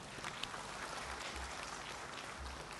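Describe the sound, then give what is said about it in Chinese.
A church audience at a Sunday service claps steadily for a sister who came up to praise despite difficulty walking, a dense, even patter of many hands sustained throughout with no voices rising above it, fairly quiet. “我们给她一个掌声好吗？”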